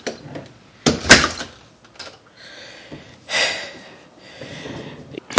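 A front door is unlatched and swung open with a sharp clunk to let in a rain-soaked person while it pours rain outside, followed by a softer rustling scrape as it moves, with a few faint breaths or shuffles around it.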